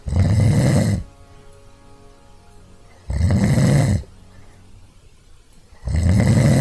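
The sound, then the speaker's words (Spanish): A voice imitates the way a person snores on falling asleep: three loud, rough, rasping snores about three seconds apart, each lasting around a second, with quiet gaps between them and no talking. “Y me duermo y empiezo a roncar así.”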